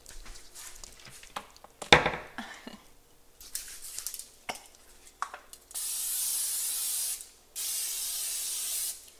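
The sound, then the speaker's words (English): Two steady hissing bursts of cooking spray into a pan, each lasting about two seconds, come after a stretch of clattering and rustling with no talking, as pans heat on the stove for cooking seasoned eggs with peppers. “Did you put any pan spray in?”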